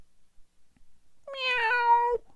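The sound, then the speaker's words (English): A single drawn-out cat meow from down a dark hallway, clear, rising into a steady tone for about a second before cutting off, with near silence around it. “They started down the dark hallway, following the cat's meow.”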